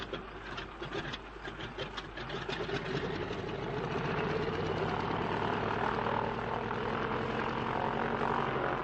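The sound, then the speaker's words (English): Stone-cold aircraft engines rev up steadily, a dense droning roar building in loudness over several seconds with a rough propeller throb, continuous, with no one speaking. “if only your engines don't seize, they're stone cold, Bertie. I can't help that old trout. Don't waste time revving.”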